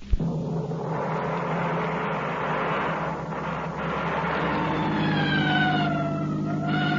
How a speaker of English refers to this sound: Well, why the siren? The only traffic out here is on horseback.